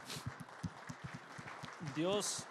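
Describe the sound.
A standing audience applauds their sisters in a steady, dense patter of many hands clapping, with a single voice briefly calling out loudly over the clapping near the end.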